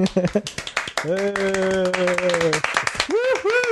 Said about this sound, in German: Sonst fangen wir mit dem Klatschen jetzt schon an.